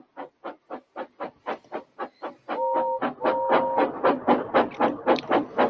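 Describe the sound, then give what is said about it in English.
A steam locomotive whistle, Thomas the engine whistling rudely at Gordon, gives two short, steady toots over a quick, regular rhythm of puffing steam chuffs that continues throughout. “Thomas likes whistling rudely at him.”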